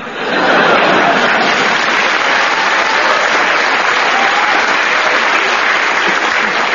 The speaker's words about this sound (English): I don't know what you're clapping for. We haven't finished yet.